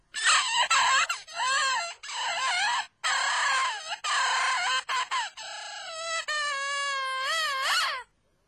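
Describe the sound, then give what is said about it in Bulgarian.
A bird named Vili, only three days among people, clucks and calls loudly, a run of choppy, squawking bursts that turns into longer, wavering harmonic cries toward the end, with no talking. “Една птица, която е едва от 3 дни сред хората, не може да бъде наясно с всички човешки приумици.”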